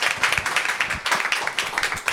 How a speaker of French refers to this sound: que j'aimerais qu'on applaudisse, s'il vous plaît, bien fort, médecin de santé.